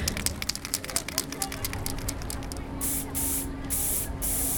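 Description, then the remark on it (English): Hiss of a spray paint can used for art by a high school student in Oakland, first in a rapid series of short taps and spurts, then in longer steady blasts of sharp, airy spray separated by brief pauses. “I wanted to try a different medium, so like spray paint.”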